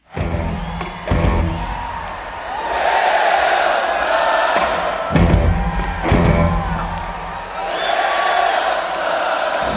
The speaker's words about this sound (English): you hear the depth and passion of that crowd there live.